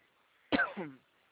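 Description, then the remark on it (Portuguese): A single dry cough, a sharp burst that trails off into a short, rough voiced tail, then quiet. “Desculpa, acabei tossindo aqui.”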